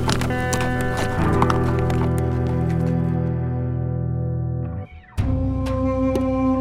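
Horse hooves clip-clop in a loose, irregular rhythm, sharpest in the opening seconds, as a rider steers around obstructing horses and continues toward Trinidad, Colorado, over a steady sustained musical drone that briefly drops out near the end.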